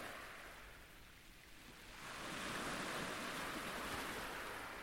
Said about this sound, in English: The Langtons made the fort a cosy home, behind the thick walls against which the waves slapped and smashed on stormy nights.